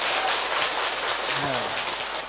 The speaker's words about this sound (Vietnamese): Cho một tràng pháo tay cảm ơn thầy.